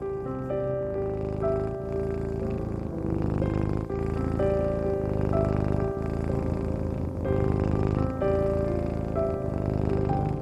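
A cat lying on someone's belly purrs steadily, a continuous low rumbling throb that runs the whole time, blended with soft sustained musical tones and no talking.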